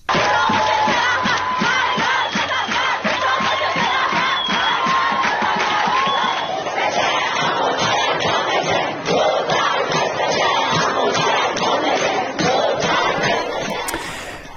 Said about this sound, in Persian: یکی از مهمترین اتفاقات در دانشگاه الزهرا در تهران، یعنی روزی که ابراهیم رئیسی، رئیس جمهوری اسلامی، به آنجا رفت، صورت گرفت. بخشی از اعتراض دانشجویان به رئیس جمهوری اسلامی گوش کنیم.